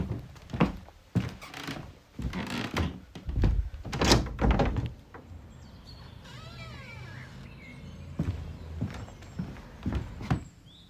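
A window is opened: a burst of knocks and thuds as it is handled, a brief squeaky creak of the frame, then a few more soft bumps.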